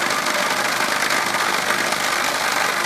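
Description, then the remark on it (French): A steady, loud mechanical hum and rattle from a vibrating machine that shakes filled chocolate moulds to remove small air bubbles runs continuously, with a constant buzzing texture and no pauses or speech. “vous entendez, on vient de mettre en marche la vibreuse. C'est pour enlever toutes les petites bulles d'air qu'il y a à l'intérieur, pour vraiment avoir une surface bien plane, lisse et agréable à l'œil.”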